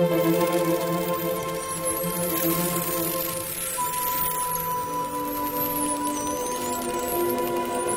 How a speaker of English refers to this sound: They're heading towards the Azores, volcanic islands 1,000 miles west of Portugal. The dolphins scan the water ahead with their sonar. They're close to their target.